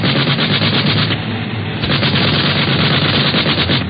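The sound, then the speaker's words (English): Rapid, continuous bursts of machine gun fire from an aircraft, a loud rattling stream of shots over a steady engine roar, with no voices. “Don't want your hair parted by one of them bullets from the other plane.”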